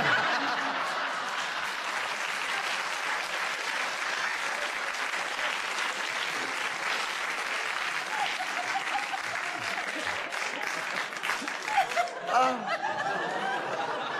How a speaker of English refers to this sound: Isn't it awful how the audience always applaud the wicked challenges? Peter, obviously the audience enjoy that challenge so much, we give you a bonus point for the challenge.